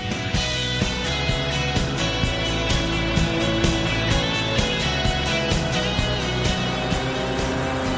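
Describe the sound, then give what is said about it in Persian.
A loud, steady roar of an airboat engine and propeller on the St. Johns River in Florida runs throughout, dense, with a low droning rumble and slight rhythmic pulsing, no voices. “سالها قایق‌های ملخی کاشف گستره وسیعی از مرداب‌ها و باتلاق‌های فلوریدا بودند.”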